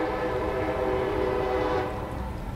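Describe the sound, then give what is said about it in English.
A passing train sounds its horn in a long, loud, steady blare over a rumbling rail roar, the horn dropping away near the end while the rumble carries on. “Because for some reason, the train always comes when I'm in the middle of making an awesome point.”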